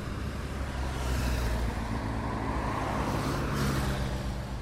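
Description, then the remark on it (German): Continuous road traffic on a winding road leading to and from a village on a fine Sunday afternoon: a steady engine roar, one motorcycle after another with cars in between, passing and revving, with no voices. “Ein Motorrad nach dem anderen, dazwischen Autos.”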